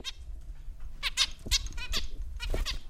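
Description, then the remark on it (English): Harsh, raspy squawks from a family's pet tropical birds fluttering in a big white cage in a suburban home burst out again and again in quick succession, loud, with no talking, over a low background rumble. “In the next room, the family's pet tropical birds squawk and flutter in a big white cage.”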